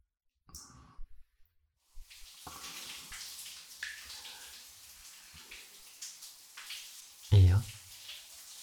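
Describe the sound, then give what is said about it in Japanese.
Shower water runs in a steady hiss after a few faint clicks, continuing to the end with a brief louder low thud near the finish. “先にシャワー浴びようね。”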